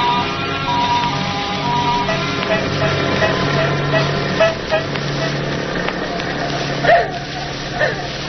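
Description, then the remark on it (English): A car engine hums steadily as it drives through the industrial district of Paris, a low continuous rumble layered with higher droning tones, with a few short sharp bursts breaking through near the end. “Where are you taking us in this car,”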